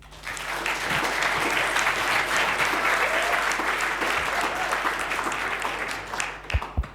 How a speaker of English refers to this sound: So give him a warm round of applause.